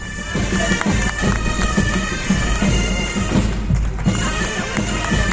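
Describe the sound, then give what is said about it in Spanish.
Bagpipes play a steady, droning tune while a crowd applauds with dense, continuous clapping and scattered cheers, loud and unbroken for the whole stretch, welcoming Queen Letizia in Oviedo, Asturias. “Gaitas, gaitas y aplausos para recibir a la reina Letizia, que está hoy en Oviedo.”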